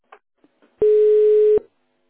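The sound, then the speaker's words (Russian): A telephone keypad beep: one loud, steady electronic tone lasting just under a second, preceded by a few faint clicks, with no voices. “Переведите ваш телефон в режим тонального набора, набрав звездочку.”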